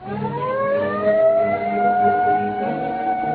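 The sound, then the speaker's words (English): A police car siren wails loudly, its pitch climbing and then holding in a steady, sustained howl, with no voices over it. “There's the police car.”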